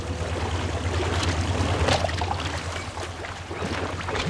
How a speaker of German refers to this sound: Dort schaukelte im leichten Wellengang eine schneeweiße Yacht. Justus steuerte das Boot, schaltete den Motor aus und ließ es die letzten Meter an den Holzsteg herantreiben.